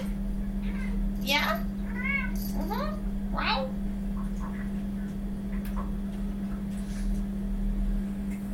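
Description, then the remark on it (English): A cat meows several times in quick succession, a few rising and falling calls, over a steady low electrical hum that continues after the meowing stops. “I need your water, silly cat.”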